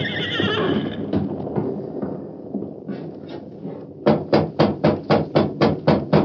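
A nervous horse named Silver gives a long, shrill, wavering whinny, followed by loud, rapid, evenly spaced hoofbeats clattering in a steady rhythm, as though the animal is stamping or trotting restlessly.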